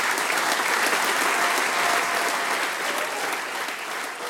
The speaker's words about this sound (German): Aber auch für die Kids darf ich nochmal einen riesengroßen Applaus bitten für den Chor der Volksschule Ilz. Sie haben das sensationell gemacht. Bitte.